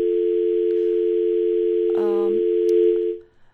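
A steady, continuous telephone dial tone hums loudly for about three seconds after the phone line to a guest of an Ashna TV program drops, briefly overlapped by a short electronic chirp, then cuts off abruptly.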